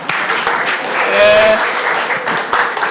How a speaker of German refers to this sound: Also, oh, 10 Applaus bitte.